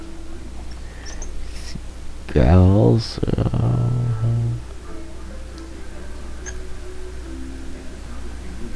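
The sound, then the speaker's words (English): A loud, deep Godzilla roar, made by Akira Ifukube by running a resin glove down a contrabass with altered pitch, bursts out for about two seconds, its pitch sliding and wavering, then settles into a lower sustained growl before fading back into quiet. “The roars actually made him by using a contrabass, and a resin glove ran down it with an altered pitch.”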